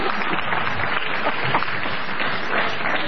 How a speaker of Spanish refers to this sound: ¡Qué aplauden!